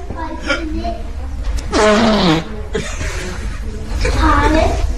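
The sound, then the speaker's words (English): A series of loud, drawn-out fart noises, produced vocally as a raspberry imitation, come in several bursts of rough, buzzy sputtering with short pauses between them, prominent. “You're in a library, and there's a woman just farting in the corner a lot.”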